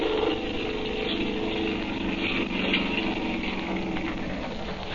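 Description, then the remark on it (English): A boat motor is started up and drones steadily for the whole clip as the boat turns around, a rough, buzzing engine hum with a low throbbing pulse and a layer of hiss on top, holding an even loudness throughout. “Now he's starting the motor up. He's turning around the boat, and here he comes.”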